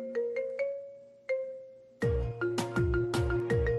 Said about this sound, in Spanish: La que más le gusta a ella es el tono del teléfono celular, que no lo suelta. Y dice así, escuchen para que ustedes vean.